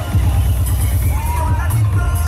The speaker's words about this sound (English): It was insane. And there was those trucks over and over, just going down the street with a huge crowd of people dancing behind them.